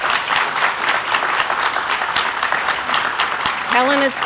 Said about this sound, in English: So let's please give them a round of applause.